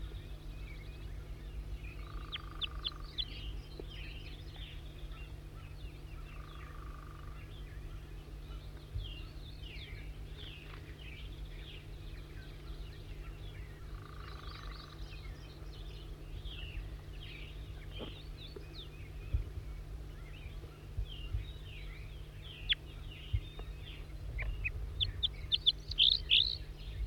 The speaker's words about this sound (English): Stop. Wild bird again.